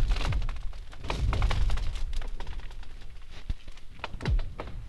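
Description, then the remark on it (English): Lake ice booming and cracking as the sun comes up or goes down, driven by the extreme temperature change between cold nights and warm days. Repeated deep thuds and sharp cracks, some with swooping, laser-like tails, echo across a wide open space with no voices, steady for several seconds. “cold nights and warm days, and the temperature change is pretty extreme, that, you know, as the sun is coming up or going down, it's like it's just constantly going on, this booming and cracking.”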